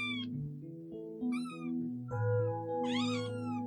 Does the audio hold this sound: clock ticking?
no